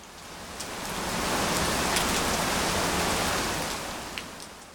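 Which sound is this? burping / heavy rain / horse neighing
heavy rain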